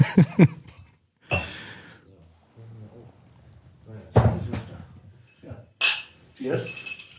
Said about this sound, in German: So, ihr hört die Eiswürfel.